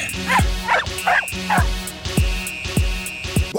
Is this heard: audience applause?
no